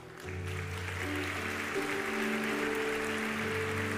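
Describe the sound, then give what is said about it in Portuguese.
A church audience breaks into loud, sustained applause to praise God as a fifteenth person comes forward for Christ, holding steady for several seconds, with held musical tones, like a keyboard or organ, sounding underneath the clapping. “Aplauda o Senhor.”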